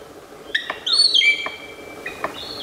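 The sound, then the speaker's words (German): A male palm cockatoo drumming during a display performance, from recordings by Australian researchers published in the journal Science Advances: a few sharp, irregularly spaced knocks, roughly four over a couple of seconds, mixed with high whistling bird calls that rise and hold. “die Forscher aus Australien, die haben 7 Jahre lang 18 verschiedene Palmkakadu-Männchen bei ihren Auftritten gefilmt.”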